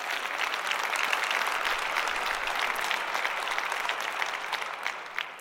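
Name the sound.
audience round of applause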